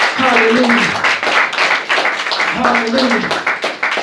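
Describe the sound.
A crowd claps steadily and loudly throughout, a dense patter of many hands, while voices call out and sing over it in two brief raised bursts.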